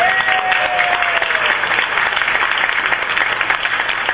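A crowd claps steadily and loudly, dense overlapping applause sustained throughout with a faint whistle-like tone drifting over it early on.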